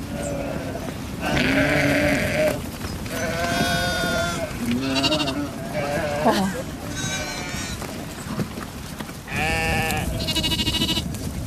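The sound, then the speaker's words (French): A flock of ewes and lambs bleats continuously, with many overlapping high and low calls rising and falling in quick succession throughout, as the flock is turned out to pasture. “Zut, et il y a des agneaux qui pensent qu'ils sont les meneurs. Et les brebis.”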